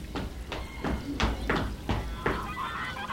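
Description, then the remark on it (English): A bird that eats frogs and fish calls out in a series of loud, harsh honks, about six of them in quick, fairly regular succession, with a rougher, trailing call at the end. “This is a bird. Is it wicked? No, it isn't. It is kind. It eats frogs and fish.”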